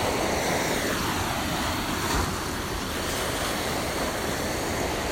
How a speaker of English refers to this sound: Waves are cresting and coming in as the tide moves in. Waves are crashing on the rocks, glistening on the sand.